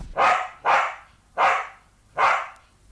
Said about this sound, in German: Ja, ein Hund, ein weißer Terrier, der auf den Namen Nipper hörte.